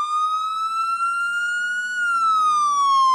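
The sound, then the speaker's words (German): A small electronic siren, set off by pressing it, wails steadily, its pitch slowly rising and then falling back down, loud with a thin, bright tone and no voices. “Ich drücke die kleine Sirene.”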